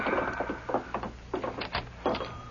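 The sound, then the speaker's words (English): A door is opened with a string of short clattering, scraping knocks and a faint creaking tone, heard alone with no talking. “Open the door,”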